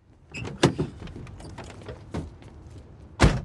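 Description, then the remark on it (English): A car door handle is pulled and the door unlatches: a few sharp mechanical clicks with soft rustling between them, ending in a louder clunk as the latch releases. “He startles, then grabs the door handle.”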